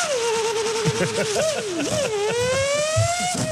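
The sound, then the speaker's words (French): A voice imitates a Formula 1 car: a loud, unbroken buzzing engine whine that wavers, dips and climbs again in pitch, like gear changes, sustained for several seconds. “Ah ouais, je fais des bruitages. La Formule 1.”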